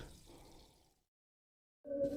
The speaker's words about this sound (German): Hier noch einen Schluck Wasser.